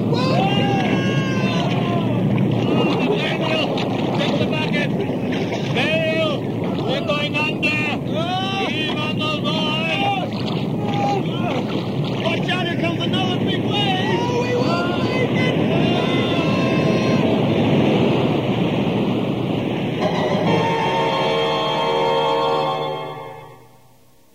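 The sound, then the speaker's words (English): A fierce storm wind roars steadily over crashing waves, loud and dense throughout, with indistinct shouting voices mixed in before the roar fades into a sustained tonal swell at the end. “Oh, listen to that wind. I've never heard it so strong before.”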